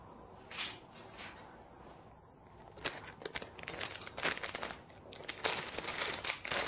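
Shredded nori being sprinkled over soba piled on a zaru (draining tray), heard as light, dry rustling and crinkling in irregular bursts that grow busier and a little louder toward the end, with no talking.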